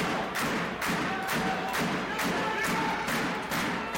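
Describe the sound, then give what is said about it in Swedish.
Steady, evenly spaced drum thumps, about nine beats, as the Tyresö crowd drums in a sold-out hall during a match against Karlskrona, pound through a continuous roar of the sports crowd, with faint voices mixed into the din. “Trummar Tyresö publiken igång.”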